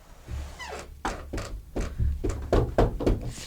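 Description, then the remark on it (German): Someone raps on a door about ten times in a quick, slightly uneven series of solid knocks, moderately loud, with no talking. “Kommen Sie erst klopfen.”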